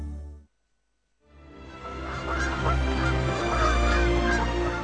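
A dense chorus of honking, goose-like calls of polar birds rises after a brief silence, loud and continuous, many birds calling at once with no talking.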